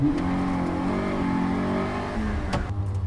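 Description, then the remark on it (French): An AX rally car of nearly 200 horsepower and 850 kg accelerates hard out of a handbrake hairpin on a super special stage circuit at Plouay during the Rallye de Bretagne, its loud harmonic whine climbing and shifting through gears, with a sharp mechanical crack near the end and no voices. “Ça repart très fort.”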